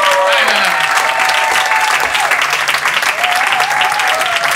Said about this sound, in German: Das ist dein Applaus. Als Musikchef von Flux FM.